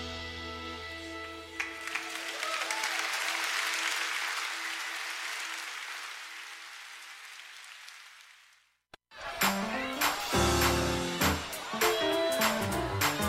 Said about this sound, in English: Everybody clap. Come on, get on your feet.